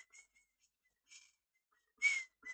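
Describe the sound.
Someone whistles a few short, breathy phrases of In the Hall of the Mountain King by Edvard Grieg, uneven and airy, with gaps between bursts and a louder note near the end.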